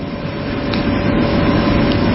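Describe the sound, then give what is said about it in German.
An air conditioner runs with a steady, broad whooshing hiss over a low rumble, holding an even level and swelling slightly, with no voices. “Wäre jetzt ein ähnliches Geräusch wie die Klimaanlage, die wir hier hören, Form eines Baches.”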